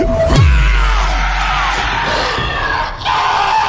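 A loud, full-throated roar blasts out close by, layered with harsh screaming and wet, gurgling cries that churn on continuously for a few seconds before trailing off.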